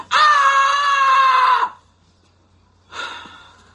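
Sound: woman screaming loudly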